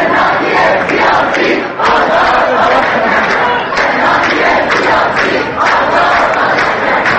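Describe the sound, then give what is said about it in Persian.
A loud crowd of protesting university students gathered on campus chants slogans in unison, voices rising and falling in rhythmic shouted bursts that fill the whole clip with dense, continuous noise. “بر پایه گزارش‌ها دیروز دانشجویان بسیاری در دانشگاه‌های امیرکبیر، صنعتی شریف، علم و صنعت، خواجه نصیر و دانشگاه‌های گیلان، بوعلی سینای همدان، کرمانشاه، سیستان و بلوچستان و قزوین تجمع کردند و با دادن شعارهای فریاد اعتراض سر دادند.”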